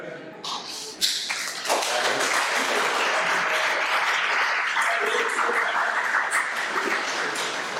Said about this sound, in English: Thank you. Big applause for him.